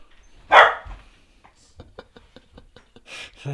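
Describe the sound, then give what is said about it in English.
A dog barks once, loud, then a run of soft clicking taps follows before a second, quieter bark near the end. No one speaks. “Sick 'em, dog.”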